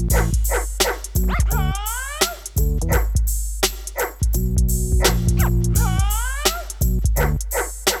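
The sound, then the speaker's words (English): A woman's voice imitates a dog, letting out repeated barks and whiny, sliding yelps over a steady, loud musical beat with bass notes. “But she was loving it all, and with her back in her arc, I busted my nut and she started to bark.”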